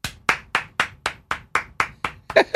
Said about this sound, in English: That's a round of applause for us for not doing that yesterday.